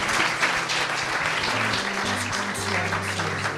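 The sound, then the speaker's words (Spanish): Steady applause from an audience on the show Despierta UMH for a girl ranked first in Spain in the under-13 category, a dense, continuous patter of many hands clapping at an even loudness for a few seconds, with a faint low hum underneath. “Un aplauso para ella, hombre,”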